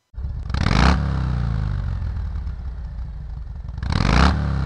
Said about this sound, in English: Whenever I go, whenever there's a motorcycle group, oftentimes it's a Harley, and the sound of that Harley is a little different, I have to tell you. It's really good. So thank you, Harley Davidson, for building things in America.